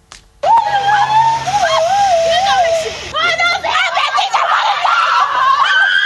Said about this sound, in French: Explosion de joie à la vue de leurs résultats.